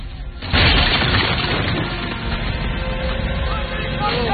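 A heavy boom erupts after a brief lull, followed by a sustained rumbling roar of French cannon firing a salvo at a fort's defenses, rolling on without letting up, thick and loud.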